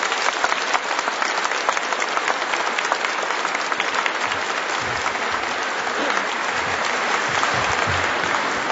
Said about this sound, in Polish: Serdecznie dziękujemy. Raz jeszcze oklaskamy.